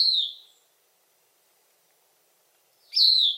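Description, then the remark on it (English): Two clear, high whistled phrases of a Bicknell's thrush at dawn among fir trees, one at the start fading out and another rising near the end, separated by a long stretch of silence. No talking. “Corduroy brown above and pale below, with messy spots on its breast, the thrush isn't really known for its good looks.”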